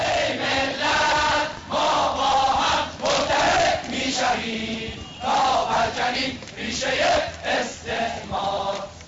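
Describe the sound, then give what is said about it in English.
A huge crowd of Iranians cheers and chants at Ayatollah Khomeini's return, in loud, surging waves, many voices roaring together in rhythmic bursts with brief dips between shouts. “Millions upon millions of Iranians turned out for his return.”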